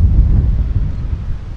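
Wind blows steadily and loudly, a continuous low rumbling roar buffeting the microphone for the whole moment, with no voices present.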